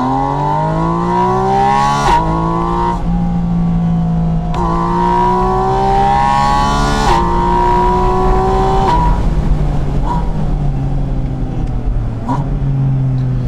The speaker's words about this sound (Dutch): De motor uit de 911 GT3! Het is eigenlijk een kleine Porsche. Nou ja, klein. Iets compacter. En dan een lekker dikke motor. En dit is het. Woehoe! 4 liter blok. Atmosferisch. Mag achterlijk veel toeren draaien.